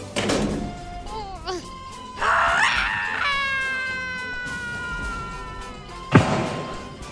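The old witch, pushed into an oven and locked in, howls: a wavering, high-pitched howl rises into a harsh, drawn-out scream that slowly fades, followed by a single heavy thump near the end.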